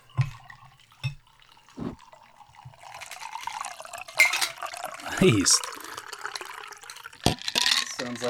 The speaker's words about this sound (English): So just bourbon and blood orange. Okay. Let's get that sound effect in there. Pour that in a glass.